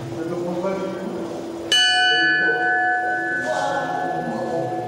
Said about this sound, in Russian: В Санкт-Петербургской духовной академии 1 сентября – это не день первого звонка, но здесь также день знаний. Знаний особенных, а колокольный звон как проводник в этот удивительный, особенный духовный мир.